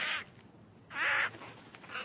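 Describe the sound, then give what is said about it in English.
An old blue-crowned conure named Connor screams in two loud, harsh, raspy bursts about a second apart, followed by shorter, fainter squawks, with no talking. “Every spring, he sits up on the lines and screams, and I assume he's calling for a mate.”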